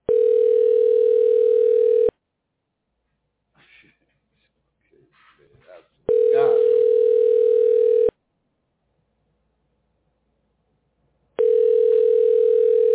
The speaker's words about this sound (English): You don't hear the phone? Do you hear the phone?